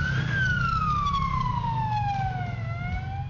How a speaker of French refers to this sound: Tout comme l'ambulance classique, elle a une sirène